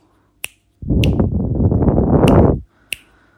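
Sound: hand clapping a rhythm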